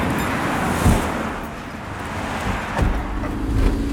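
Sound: highway traffic passing by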